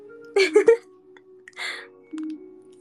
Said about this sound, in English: You like paper cutting noise? That's good.